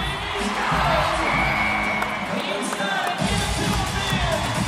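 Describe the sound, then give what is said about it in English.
A large rodeo arena crowd cheers wildly after a bull rider's good ride, as he throws off his hat and dances a hoedown in the arena to music. A dense, steady roar of shouts and whoops stays loud and continuous throughout, with scattered higher yells and a faint tone riding over the din. “After a good ride, he throws off his hat and does a crazy hoedown in the arena, elbows flying to the music as the crowd goes wild.”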